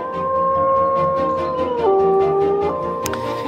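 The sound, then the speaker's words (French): A wolf howls in a long, steady, loud tone that drops abruptly in pitch partway through, then trails off, with a steady low rumble of background noise underneath. “Ah, dites donc, et lui, il fête la nature aussi, mais 365 jours par an, c'est le loup, vous l'avez compris.”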